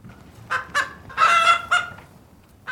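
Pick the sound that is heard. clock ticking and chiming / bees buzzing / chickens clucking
chickens clucking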